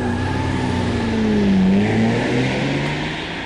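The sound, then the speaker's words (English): A getaway car's engine revs hard and accelerates after a robbery, its droning pitch rising and swelling to a peak midway before easing slightly, loud with steady road rumble and no voices. “Okay, step on it!”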